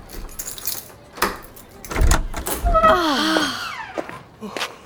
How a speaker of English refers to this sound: You pick up the key. And open the door.